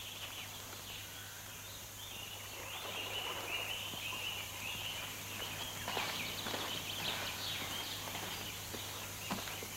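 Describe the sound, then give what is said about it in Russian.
A flock of ducks quacks and chatters continuously, overlapping calls at moderate volume over a steady low hum, growing a little busier partway through, with no one speaking. “Это мои утки! Не трогайте их!”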